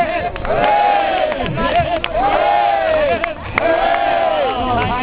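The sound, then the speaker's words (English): A crowd gives three rousing cheers for the referees at a yearly event, each a loud swelling shout of many voices rising in pitch, spaced evenly with brief murmuring gaps between them. “Okay, three cheers for the referees, every year they've been here.”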